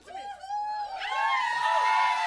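An audience breaks into loud, high-pitched cheering and whooping, a dense burst of many voices that swells after a moment and stays sustained.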